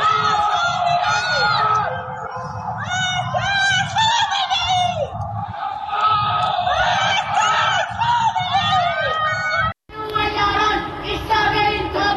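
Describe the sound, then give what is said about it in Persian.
Anti-government protesters shout 'Death to Khamenei' from windows of dark homes on Tuesday night, 21 Bahman 1404, during Islamic Republic fireworks for the revolution anniversary: many overlapping voices, echoing and steady, rising and falling in waves with a brief pause near the end, loud chanting and yelling with no single clear speaker. “در یکی از ویدئوهای منتشر شده معترضان از پنجره فریاد مرگ بر خامنه ای سر می دهند، در حالی که در پس زمینه آتشبازی جمهوری اسلامی به مناسبت سالگرد انقلاب 57 دیده می شود.”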